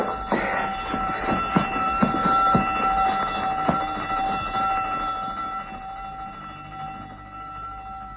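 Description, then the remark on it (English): A prison alarm bell rings continuously, signalling that prisoners have escaped: a steady, shrill metallic tone with some clattering hits early on, holding fairly loud before easing off slightly toward the end. “That's what I wanted to hear. The prison alarm bell.”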